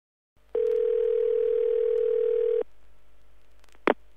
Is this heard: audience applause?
no